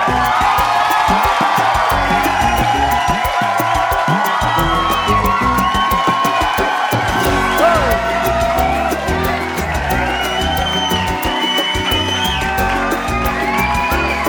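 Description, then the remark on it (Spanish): A crowd claps and cheers loudly and without pause in celebration of mothers for Mother's Day, with scattered whoops and shouted voices rising over dense, steady applause for the whole stretch. “Y esos aplausos.”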